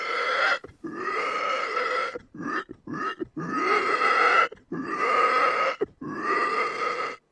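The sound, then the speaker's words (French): A person loudly imitates a pig, letting out a series of drawn-out squeals and grunts in several bursts separated by brief pauses, with no talking. “Et au salon de l'agriculture, je suis champion du cri du cochon pour la deuxième année consécutive.”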